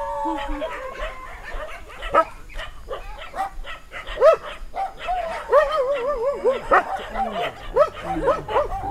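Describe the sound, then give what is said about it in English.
A crowd of dogs barks and yips nonstop, their overlapping calls mixed with high whines, fairly loud, with no pause throughout. “But you see, I tell you, this is cultural, whereas these dogs are happy. And they receive care.”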